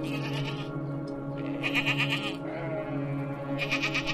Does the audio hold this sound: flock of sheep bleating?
yes